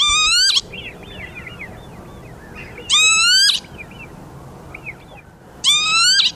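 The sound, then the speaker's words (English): A lapwing gives three loud, shrill peewit display calls during its erratic display flight for the females, each a rising harmonic-rich note spaced a few seconds apart, with softer chirping birds in the background between them. “And all the while, it's making this loud, shrill peewit, peewit, or kibitz, kibitz, if you're German, during the time that it's flying around in this odd, erratic fashion.”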